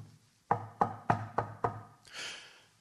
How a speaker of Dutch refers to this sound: Plotseling horen ze op de achterdeur een luid geklop.